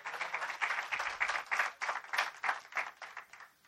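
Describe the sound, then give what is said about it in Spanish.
An audience bursts into applause for God, many hands clapping in a dense, steady patter with rhythmic surges, fairly loud and sustained for several seconds with no one speaking. “A ese mismo Dios, denle un aplauso este día.”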